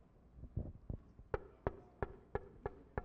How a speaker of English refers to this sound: Somebody knocking on the door? So when somebody knocks on the door, what does it do? It gets my attention to hear their voice, right?